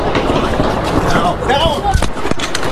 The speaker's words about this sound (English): You hear the sound of that gunfire going on for quite some time. What was going on?